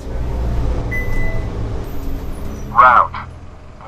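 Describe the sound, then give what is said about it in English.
A San Diego city bus on Route 1 rumbling along El Cajon Boulevard with a low, steady engine drone, a faint whine partway through, and a brief squealing burst near the end, like brakes or a stop signal. “is a bus driver in San Diego.”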